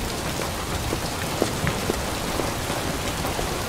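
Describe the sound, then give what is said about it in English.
Heavy rain pours down steadily in a dense, continuous hiss, with scattered sharper drops pattering on hard surfaces. No voices are heard. “Rain drenches their hair and clothes.”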